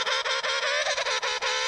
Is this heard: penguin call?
yes